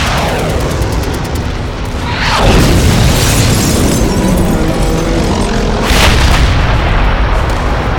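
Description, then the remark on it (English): An artillery barrage pounds a tank force and the rear of an army, roaring steadily, with two heavy shell explosions bursting out of the rumble, one early and one later, each leaving a loud crackling wash of noise. No one speaks. “The artillery continued to pound away, by prearranged command, at the forward tank force and the very rear of the army, trapping them in a barrage of exploding steel.”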